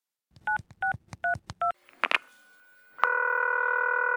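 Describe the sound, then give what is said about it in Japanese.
Four quick touch-tone beeps as a phone number is dialed to call Amazon customer service, followed by a brief click and then a steady, continuous ringing or line tone. No one speaks. “注文したものじゃない。電話してみよう。”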